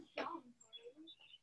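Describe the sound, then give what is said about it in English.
Children's voices outside the door: a sudden shout followed by high-pitched chatter and calls, like kids playing and running around. “Some kids playing outside the door here.”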